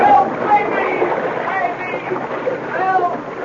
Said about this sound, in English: The young Mountie couldn't believe what he saw when the dog deliberately upset the canoe, throwing Mackenzie thrashing into the water.